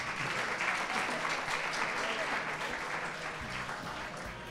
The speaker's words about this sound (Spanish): Un fuerte aplauso para ellas, sí señor.